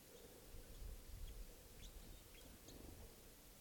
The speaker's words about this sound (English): I pointed at another bird up in the tree here. He's in a soft song. It's probably a male. I don't see the bird though.